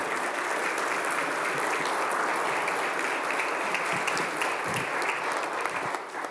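Sustained welcoming applause from an audience for a pastor: a dense, steady patter of many hands clapping at an even loudness for several seconds before tapering slightly at the end, with no one speaking over it.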